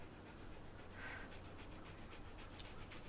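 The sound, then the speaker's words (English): A female dog pants quickly and steadily in short rhythmic breaths, fairly soft, over a faint background hiss with no talking. “It's Bob Platt's dog.”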